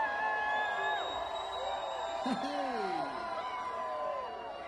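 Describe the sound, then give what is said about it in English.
A small concert audience of about eight people in Hoxieville screams and cheers in a steady, continuous burst, several high voices whooping over one another before easing off slightly near the end. “So this is for all eight of you that screamed.”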